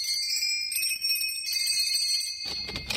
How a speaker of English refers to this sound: I set the plane down. We walked over to Santa's workshop. Rang the bell.